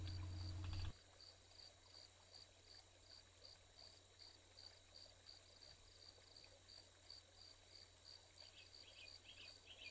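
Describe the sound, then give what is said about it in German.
Grasshoppers chirp softly in summer in green meadows, in a steady, rapid pulsing that runs unbroken through the whole stretch, set against a faint outdoor hush with no voices. “Oder hörst du das leise Zirpsen der Grashüpfer im Sommer, wenn du in den grünen Wiesen spazieren gehst?”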